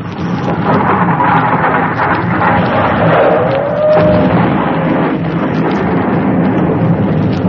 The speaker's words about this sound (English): There. Hear that? That's the first explosion.